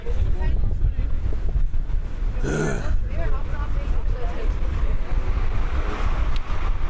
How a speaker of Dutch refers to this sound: Oh ja, we gaan nog wat windgeluiden doen.